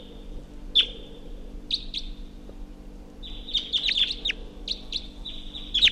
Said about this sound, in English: Wild bird up in the tree.